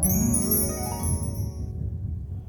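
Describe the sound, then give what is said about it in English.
Wind chimes ring out with bright, high metallic tones that shimmer and fade over a couple of seconds, above a steady low rumbling background. “What do you do when the clouds roll in, when the wind chimes clang and the weather vanes spin?”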